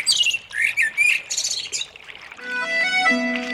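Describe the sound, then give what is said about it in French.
Birds singing, a quick run of bright chirps and trills followed by a steadier, more tuneful warbling phrase, with no voices present. “Et si je pouvais prendre deux sons avec moi, c'est ceux du Tarn qui coule et les oiseaux qui chantent.”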